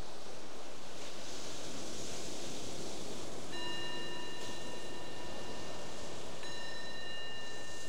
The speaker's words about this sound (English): So the bell invites us to let go of that exploration and bring the awareness back to right here, right now.